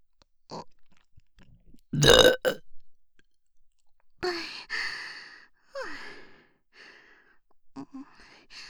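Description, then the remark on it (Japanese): Loud practice burps close to the ear, a sharp throaty one followed by a few longer, rumbling voiced belches, with soft breaths and sighs in the pauses between them. “連続して大きいゲップは出せないの。”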